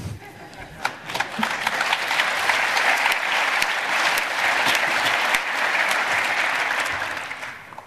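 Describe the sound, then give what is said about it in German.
A large audience at a congress applauds steadily at the mention of the talk Treckerfahren, dense clapping swelling quickly and holding loud for several seconds before easing off slightly at the end, with a few sharper individual claps standing out. “An dem Applaus merke ich, kennen einige, haben vielleicht einige gesehen, vielleicht waren einige dabei.”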